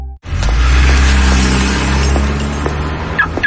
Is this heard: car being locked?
yes